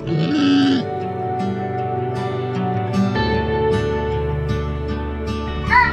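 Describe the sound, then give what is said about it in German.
A fennec fox, also called desert fox, makes high, squeaky whining cries: a sharp bleat-like call at the start, then continuing thin, nasal whimpers over a low steady background hum, fairly loud. “Es ist ein Fennek, auch Wüstenfuchs genannt.”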